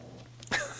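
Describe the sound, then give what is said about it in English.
A pug gives a single short, raspy snore-like snort in a home recording studio, a brief nasal burst against a low steady hum. “Ladies and gentlemen, this is the dulcet sounds of a pug snoring in the background.”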